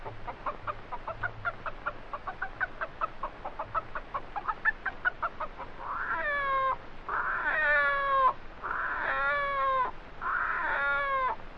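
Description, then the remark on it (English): A voice imitates a hen's rapid, rhythmic cackling at a hen roost for several seconds, then shifts into a series of loud, drawn-out rooster crows, four in a row, clear with no talking. “A hen cackling with a rooster chorus.”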